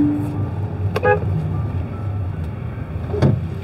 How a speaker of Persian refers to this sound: ببین الان من میتونستم وایسم با این دعوا کنم ولی بهش بوق دادم، یعنی بیا برو، راهم بهش دادم.